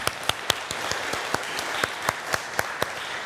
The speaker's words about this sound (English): Do you want to clap? I feel like I want to clap.